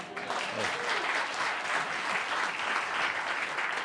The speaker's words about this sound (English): Oh, you don't have to applaud. That's okay.